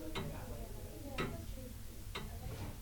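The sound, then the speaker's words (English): A grandfather clock standing in the corner of an apartment ticks slowly and steadily, three distinct ticks about a second apart, over a low, murmuring background. “And then, of course, we arrive here at this lovely grandfather clock in the corner as well.”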